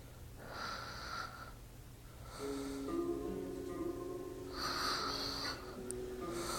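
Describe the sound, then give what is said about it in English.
Three rasping snoring breaths roll in and out at a slow, steady pace, each a throaty, wheezy snort with a buzzing tone, moderately loud over a low background hum. “I do not snore. You snore.”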